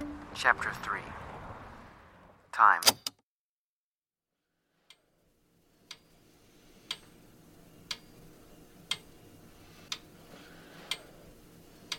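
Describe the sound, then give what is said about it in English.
A clock ticks steadily about once per second, sharp, distinct clicks over a faint room hiss, following a couple of brief opening sounds and a moment of silence. “This clock sound is from a story I did about a man with ALS.”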